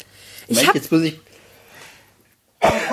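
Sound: sneeze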